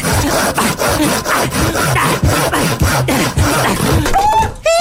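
Loud, close sawing through wood, with rapid, steady back-and-forth strokes for several seconds. It ends with a brief high-pitched vocal whoop.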